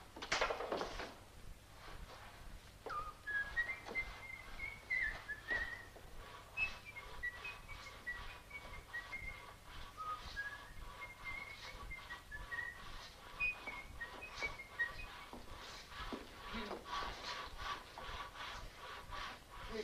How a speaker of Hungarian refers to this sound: Ne fütyülj! Hát nem én fütyülök.